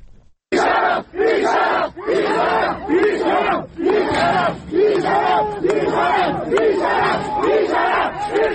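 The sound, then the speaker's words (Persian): A crowd of many voices shouts and chants in loud, rhythmic bursts about once a second, with overlapping cries and yelling rising and falling throughout: a clash between students and plainclothes forces at a student gathering in the courtyard of Ardabil University of Medical Sciences. “صدای یکی از این درگیری‌ها رو بشنویم.”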